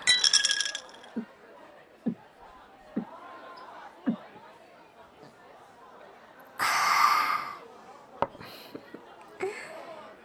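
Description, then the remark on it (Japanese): Glasses clink together in a toast among new university friends: a bright ringing touch at the start, soft knocks, then a louder burst of clinking and a few sharp taps, with faint voices in the background. “よし、それじゃあ、乾杯。”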